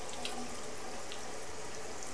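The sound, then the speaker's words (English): A steady stream of tap water pours into a sink with an even, hissing rush that holds constant throughout, moderately loud, as the water warms up for washing hands, with no one speaking. “Go wash off your hands because the water get warm.”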